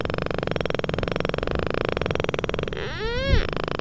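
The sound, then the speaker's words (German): Underwater echolocation clicks, used to locate obstacles and prey fish in water, made audible for research by scientists of the University of Veterinary Medicine Hannover: a dense, steady train of short, fine clicks that near the end speeds into a buzzing tone rising and falling in pitch, with no talking. “Aus den Reflexionen errechnen sie dann, wo sich Hindernisse im Wasser befinden oder auch ihre Beutefische.”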